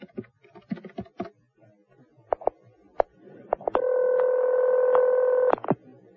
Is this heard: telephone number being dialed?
yes